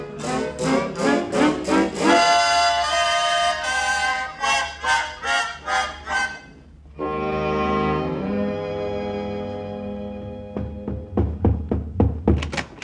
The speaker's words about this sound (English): Oh, well, I heard you pounding on the floor.